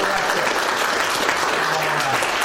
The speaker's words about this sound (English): Y'all go ahead and clap. Let me show you how to do that.